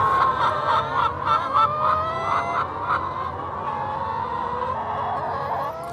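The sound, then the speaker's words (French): A dense chorus of about 12,000 hens clucking all at once on a farm, a large flock filling the space with overlapping cackles and a steady rhythmic burst of calls early on, fairly loud, with no talking. “on entend les crissements de pneus des voitures sur le circuit automobile de l'Urcy et le caquettement de ces 12 000 poules qui, aussi incroyable que cela puisse paraître, se sont comme mises au diapason de la modernité.”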